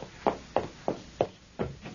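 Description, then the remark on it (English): A series of about five firm knocks on a door, evenly spaced with a slight unevenness in rhythm, each a sharp, hollow thud. No voices are heard. “Oh, my gosh, someone's at the door.”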